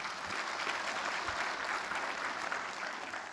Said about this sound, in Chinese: 哈利路亚，为你们自己鼓掌一下。